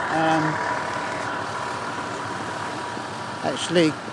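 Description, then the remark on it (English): A tour bus engine idles with a steady low rumble throughout as passengers get off near Penny Lane, with brief voice-like tones at the start and a short chirping sound near the end. “Right, off the bus now.”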